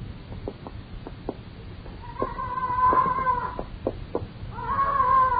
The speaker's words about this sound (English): What's that? Parrot. Leach keeps it upstairs in the flat. Used to belong to her.